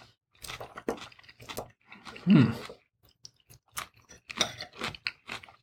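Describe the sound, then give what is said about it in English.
Crisp crunching and chewing of a fresh homemade leafy salad with Parmesan dressing, in repeated irregular bites with one louder, fuller crunch midway through. “This is really fresh and crunchy.”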